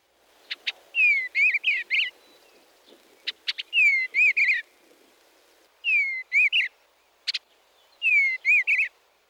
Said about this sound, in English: The song of the eastern bluebird can be thought of as a soft warble with rich whistle notes and occasional chattering.